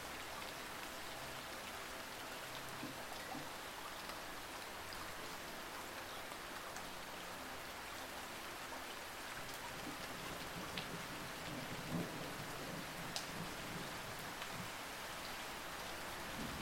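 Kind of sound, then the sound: nature, rain falling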